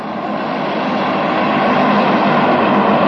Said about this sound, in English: You can hear just an airplane.